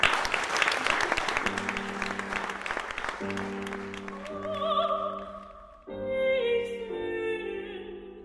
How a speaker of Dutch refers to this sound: Graag een warm applaus